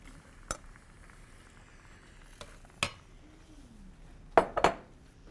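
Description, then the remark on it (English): A spatula scrapes and clinks against a small metal kadai as fried paneer and bell peppers are stirred, with a few sharp knocks spaced irregularly and a double clatter near the end, over a faint steady background sizzle. “This is a small kadai. So I'm gonna have to be careful.”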